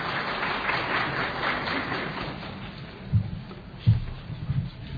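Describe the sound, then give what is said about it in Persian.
Audience applause at a gathering of artists: a dense, steady wash of many hands clapping that thins out toward the end, where a few dull low thumps break through. “شایسته و بایسته تشویق بکنه.”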